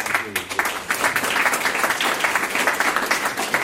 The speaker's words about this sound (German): Applaus hier in der Handelsakademie und Handelsschule in Tulln.